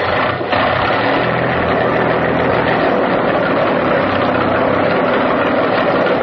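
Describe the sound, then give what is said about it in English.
A motor engine runs steadily and loudly, a dense, rumbling drone with a gritty mechanical rattle that holds constant throughout, with no voices over it. “I'll get the motor started.”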